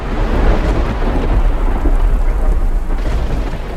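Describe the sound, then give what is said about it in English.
A deep, continuous thunder rumble rolls beneath a steady, heavy downpour at night, with lightning flickering above city high-rises in Detroit, Michigan, USA. It is loud throughout with no voices, the storm's roar filling the whole stretch. “Fade up on a nighttime scene with lightning flickering above city high-rises.”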